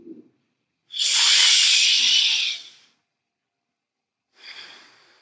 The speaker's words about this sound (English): On your exhale, allow the breath to lightly fall out and your belly to flatten. You don't need to allow all of your breath out. Around 3/4 way, continue into the next inhale.